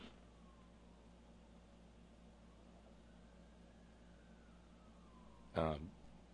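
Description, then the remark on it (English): Emergency vehicle sirens wail faintly, slowly rising and falling beneath a steady background hum, with a brief sharp bump near the end. “Uh-oh, sirens. Y'all hearing those?”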